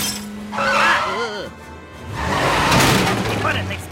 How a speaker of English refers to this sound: The car tumbles into the house, smashing a hole.